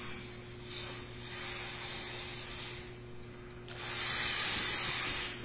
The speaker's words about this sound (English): If I, this star here, if I take a ruler and I measure the distance right now between this star and this one, watch what happens to the distance as I inflate the balloon.